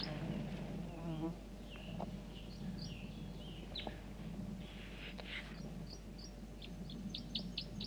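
A wild male bird's flight song given overhead at 8:09 a.m.: scattered high, thin chirps and short sweeping notes that quicken into a rapid run near the end, all over a steady droning insect buzz.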